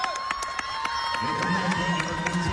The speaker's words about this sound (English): And a great ovation from the Jesuit crowd today.